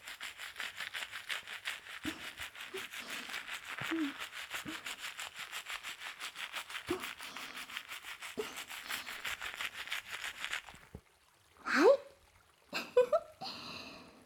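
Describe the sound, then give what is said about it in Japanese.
Steady wet rubbing and scrubbing of lathered hair during a shampoo runs for about ten seconds with a soft fizzing texture, then stops, followed by a few brief splashy handling sounds. “それでは、これでシャンプーの方はおしまいです。”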